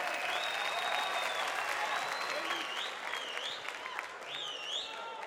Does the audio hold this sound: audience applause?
yes